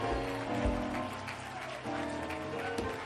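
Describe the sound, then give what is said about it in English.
A church audience claps and shouts to God together in a steady, dense wash of applause mixed with raised voices, sustained at an even loudness for the whole few seconds. “Oh, would you clap your hands and shout just a little bit to God?”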